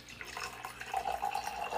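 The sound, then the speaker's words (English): Still Icelandic Glacial natural spring water at room temperature pours steadily from a plastic bottle into a glass. It makes a continuous splashing trickle whose tone climbs slightly as the glass fills, moderately quiet with no voices. “Nice pour.”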